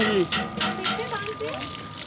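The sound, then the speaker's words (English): Water pours and sloshes in uneven splashy bursts, fairly loud, as a man does laundry by hand at a water tank in a large tent camp, while indistinct voices murmur faintly in the background. “This is a water tank and there's a man doing laundry.”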